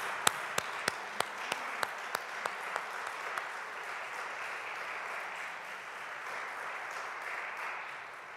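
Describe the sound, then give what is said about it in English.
A church audience breaks into sustained applause to thank the clergy, staff, soloists and IT team, with several sharp, evenly spaced claps standing out near the start before the clapping settles into a steady, dense wash that carries on to the end. “Would you join me in a round of applause?”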